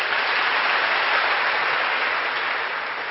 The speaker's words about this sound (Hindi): कौन कौन मानते हैं? अरे वाह, अपने लिए तालियां बजाइए प्लीज।